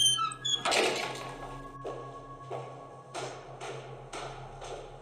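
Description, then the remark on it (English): A heavy, watertight bronze door set in the base of a lighthouse creaks open, a drawn-out groaning squeak followed by a series of shorter rhythmic creaks over a low, steady hum, with no one speaking. “Set in the base of the light was a watertight bronze door.”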